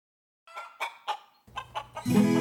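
A hen clucks in a quick series of short, bright bursts, about six in all, fairly loud, before a louder sustained tone swells in underneath at the end.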